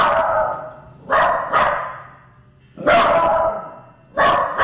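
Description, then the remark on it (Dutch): A distressed, somewhat frightened dog that has heard something gives a series of alarm barks, five sharp, loud woofs in an uneven rhythm, some coming in quick pairs, each trailing off with a brief ring. “Ja, dit is eigenlijk een hond die verontrust is. Je zou dat een alarmblaf kunnen noemen.”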